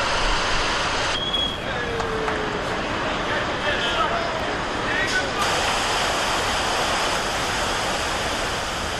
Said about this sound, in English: A crane stood ready to release the river, waiting only for the politicians to make their speeches. Then, with the ceremonies complete, it was time to let the river flow.